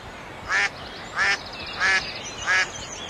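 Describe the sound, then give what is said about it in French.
A bird calls four times in a steady, evenly spaced rhythm in a quiet city centre, each call a short, harsh, nasal burst standing out clearly over a faint, low background hum. “On n'entend rien. Que les oiseaux et la faune sauvage qui revient.”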